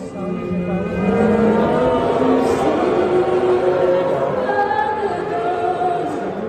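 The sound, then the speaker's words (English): A large crowd of Canadian hockey fans in an arena boos loudly and continuously over the US national anthem, a dense, low, droning roar over a sustained melody of long held notes, the jeering steady from start to finish. “Booing over the US national anthem, not just at this hockey game in a Canadian arena, but at other games and matches too over the weekend.”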